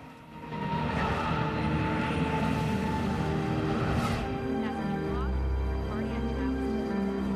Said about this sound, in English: A passenger plane touches down on a runway at an airport, raising small clouds of smoke from its tires.